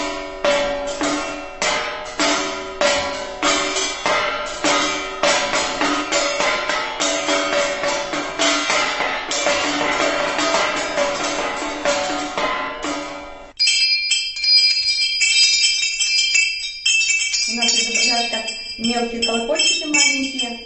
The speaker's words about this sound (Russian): Еще один интересный инструмент называется клепало. Клепало из металлических пластинок. Тоже прародители колоколов.